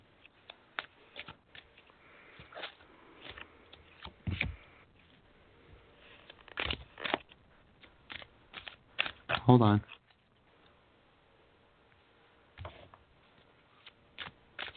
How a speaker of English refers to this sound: Sometimes I just shuffle, and then if a card comes out, I'll take it, or I'll just take one at a time, and sometimes they bind up, and I'll just take those.